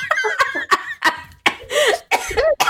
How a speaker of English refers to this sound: Stop it. You're making me cough, choke, laugh.